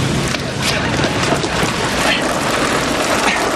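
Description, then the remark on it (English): Heavy rain roars steadily and loudly throughout, a dense wash of hissing downpour with no breaks. “I came to tell you that it's raining.”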